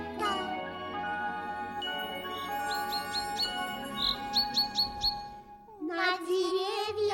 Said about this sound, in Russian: Распевают песни птицы, всем на радость нежно листья шелестят.